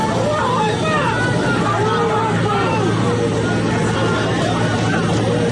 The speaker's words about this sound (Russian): Пожалуйста, сохраняй свои места и не пытайтесь открыть двери самолета. На улице разъяренная толпа.